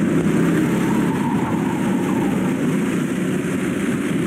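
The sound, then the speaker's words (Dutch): Outdoor go-kart racing: a steady, unbroken roar of small engines droning at a constant loud level for the whole stretch, with no voices heard. “Laten we even een fragmentje luisteren naar van dat buitenkarten.”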